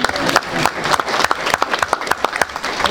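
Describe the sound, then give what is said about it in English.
A crowd applauds steadily for a few seconds to congratulate a student who passed her physical therapy technician certification, many hands clapping in a dense, irregular patter with a few sharper individual claps standing out. “Oh, you can clap, I'm sorry.”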